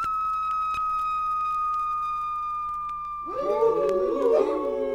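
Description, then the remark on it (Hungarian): A long, steady high whistle, blown to summon the wolf king, sounds without a break, and after about three seconds a chorus of rising, wavering wolf howls swells up beneath it, fairly loud. “Szó se lehet róla, inkább belefújok így. Ide hívom a farkas királyt.”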